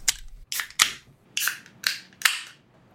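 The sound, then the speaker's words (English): Elaborate Metaphor beer being opened: a run of about six sharp, bright snaps and pops, each trailing a short airy hiss, spaced unevenly over a few seconds with no one talking. “Let's pop this sucker.”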